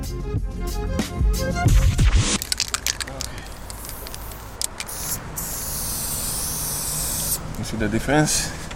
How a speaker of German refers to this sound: Auf etwa 30 Meter Höhe demonstriert Metank, wie er mit verschiedenen Sprühventilen arbeitet.